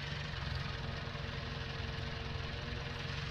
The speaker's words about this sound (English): Yep, there we go. Mower actually works. Look at that, making dust.